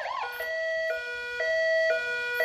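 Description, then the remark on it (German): A police siren wails in a two-tone pattern, alternating high and low pitches about every half second. It is loud and steady, with no talking over it. “Oh, ist das eine Sirene? Ei, ei, ei, das klingt nach Polizei.”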